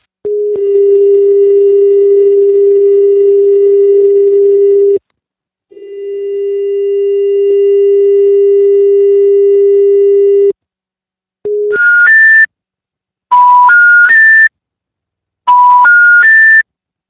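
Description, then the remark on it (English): A steady electronic telephone line tone drones for several seconds, pauses, and resumes, then gives way to short bursts of rising three-note tone sequences, like an intercept signal, heard clearly with no voices, playing down the line after a dialed phone number picked up. “Some of the numbers picked up, but with strange tones playing down the line, as you can hear in these next two recordings.”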